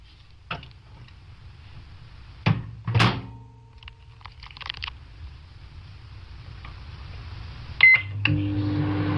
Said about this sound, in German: Ich habe euch 2 Experimente mitgebracht und Wir gucken uns die mal an. Neues aus der Mikrowelle. Was passiert mit einem Schokoguss?